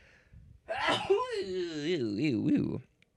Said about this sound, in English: Maybe after I sneeze. Let's see.